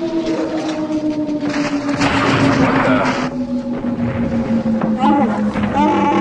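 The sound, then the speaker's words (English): A spaceship comes out of hyperspace into a meteor shower from an asteroid collision; its engine drones with a steady, slowly falling hum as the sublight engines are cut, while loud bursts of rushing, crackling debris noise sweep past, followed by a few warbling electronic chirps. “We come out of hyperspace into a meteor shower. Some kind of asteroid collision.”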